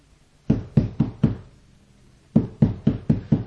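Two quick sets of four firm knocks on a wooden door, close by and evenly paced, with a short silent pause between the groups.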